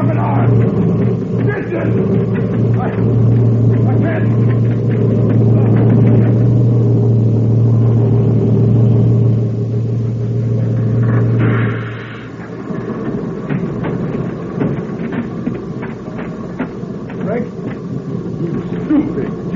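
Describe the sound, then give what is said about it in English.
A truck engine roars past in a loud, steady low drone as the truck passes over a person lying beneath it, cutting off abruptly around twelve seconds and leaving quieter rumbling and clatter with some voices mixed in. “I laid down so the truck would pass over me.”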